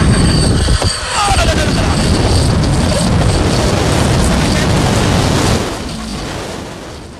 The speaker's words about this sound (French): Ouais, c'est compliqué, il y a beaucoup de vent au niveau de la tyrolienne.